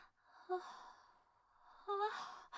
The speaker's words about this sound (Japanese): うわ、何さ、でっかいあくび。 あくびが映った。